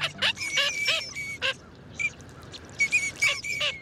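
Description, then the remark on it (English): A flock of small ducks in the shallow wetlands of North America in spring calls in rapid, overlapping bursts, clear, with brief pauses between clusters of nasal, high-pitched notes over a soft outdoor background. “In spring, millions of small ducks move into shallow wetlands of North America.”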